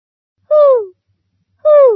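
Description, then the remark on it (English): Two owl hoots, each a short, clear call that slides downward in pitch, separated by about a second of silence. Both are fairly loud, with no other sounds around them. “To this day, the owl says, Who?”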